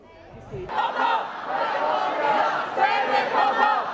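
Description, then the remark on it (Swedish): A large pro-democracy protest crowd in Hong Kong chanting and shouting together, a dense roar of many voices that swells in after a brief quiet start and stays loud and sustained throughout. “Och så har vi förstås de omfattande protesterna i Hongkong, där demonstrationerna för demokrati ser ut att fortsätta in på nästa decennium.”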